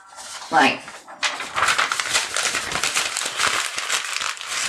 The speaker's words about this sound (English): I really like the sound of paper being scrunched up. I'm just going to show you now.